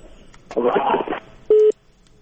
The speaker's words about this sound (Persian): فکر میکنم تلفن هم قطع شد.